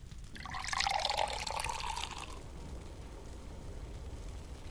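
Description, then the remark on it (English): A pail of warm water is poured into a bathtub in one steady, splashing gush lasting about two seconds, then the sound stops, leaving a quiet, low background hum. No one speaks. “And then, we can both carry pails of warm water to the bathtub.”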